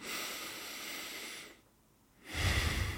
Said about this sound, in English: And then you just like look around and you want to breathe in through your nose. Just your nose and then out through your nose.